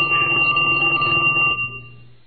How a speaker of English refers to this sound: Your phone's ringing. Are you going to answer it?